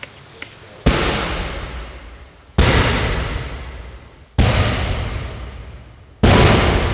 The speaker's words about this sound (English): From there, Barnett auditions four different cannon blasts for the conductor and manager to choose from. Four shots, light, and then progressively heavier.